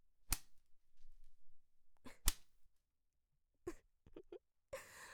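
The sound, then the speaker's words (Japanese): Two sharp, loud whip cracks ring out about two seconds apart, followed by a few softer snapping swishes and a burst of rustling noise, with no voices. “だから出し惜しみせず、とってもいい鞭を用意したんだから。”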